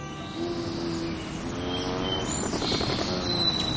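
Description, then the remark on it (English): A hummingbird zips past, likely seeking out red blossoms or a backyard nectar feeder accented with red plastic; its wings make a steady buzzing hum that swells briefly and then holds, with thin, high chirps and squeaks above it. There is no talking. “The hummingbird we hear zipping by is likely seeking out red blossoms or making a beeline for a backyard nectar feeder accented with red plastic.”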